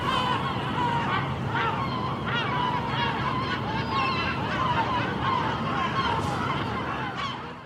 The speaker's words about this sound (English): Morning river run. Invisible seagulls laugh their heads off.